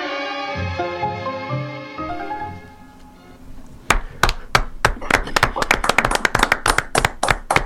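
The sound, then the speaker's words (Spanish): A tango-style melody winds down and fades, then an audience breaks into applause: loud, sharp claps in a dense, uneven patter that continues to the end. “Bueno, ahora escuché todos los aplausos, esta vez sí.”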